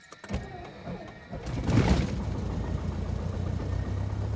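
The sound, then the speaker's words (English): The engine of a 1975 Cessna 172 propeller airplane at Falcon Field catches with a rising burst of noise, then settles into a steady, low, throbbing idle that drones on evenly to the end. “The airplane is a Cessna 172, 1975 model.”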